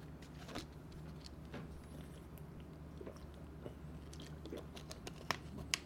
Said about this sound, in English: Need a change of scenery, and let me take a sip of water while we do that.